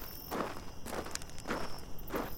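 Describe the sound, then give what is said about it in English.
Four footsteps of a person with a flashlight stepping into the dark, at a slow, steady walking pace, each a soft, crunchy thud of moderate loudness over a constant low background hiss, with no voices. “I grabbed my flashlight and I stepped into the dark.”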